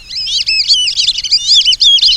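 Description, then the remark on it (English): A flock of black-bellied whistling ducks whistling together: many overlapping high, thin, wavering whistles in a steady, busy chorus, loud throughout, with no talking. “Black-bellied whistling ducks demonstrate that they are indeed ducks that whistle.”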